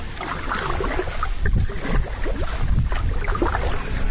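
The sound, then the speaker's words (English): Kayak paddle strokes dip and splash through salt water in Prince Cove in a steady rhythm, with light wind rumble brushing the microphone throughout. “We're paddling on the kayak.”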